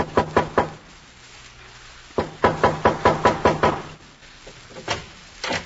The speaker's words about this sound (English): There is a knock at the back door.